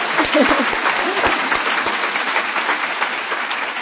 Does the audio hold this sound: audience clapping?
yes